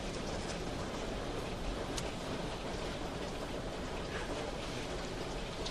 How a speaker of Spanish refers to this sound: ¿Te gusta la lluvia? ¿Qué? ¿Me preguntas por el tiempo? Sí. Supongo que sí. Pues la lluvia no me gusta. Las cosas frías y húmedas no me...